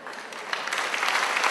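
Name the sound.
audience applause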